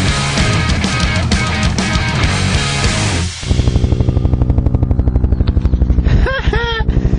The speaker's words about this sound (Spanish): Hay un helicóptero tratando de apagar el incendio.